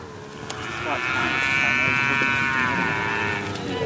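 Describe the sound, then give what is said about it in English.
A cow lets out a long, drawn-out moo that swells and fades over a few seconds, against a steady outdoor background with faint lowing from other cattle, on a hot, dusty cattle station in Western Australia's remote north. “A hot and dusty cattle station in Western Australia's remote north is about as far as you can get from a French boulevard or a Thai beach.”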